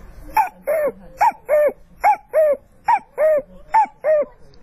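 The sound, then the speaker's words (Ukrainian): A man's voice imitates a cuckoo, repeating the two-note falling "cuck-oo" call about five times in a steady rhythm, clear with no other talking. “я потихоньку начал с мелочей, вот, с птички. Кукушечка.”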